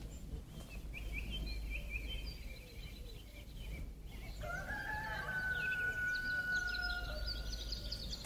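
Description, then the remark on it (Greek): A rooster crows once with a long, strained cock-a-doodle-doo over steady outdoor ambience in the quiet countryside, while smaller birds chirp and twitter faintly in the background. “πάντα κάνει ένα γκρο πλάνε πάνω και ακούμε τον κόκορα που.”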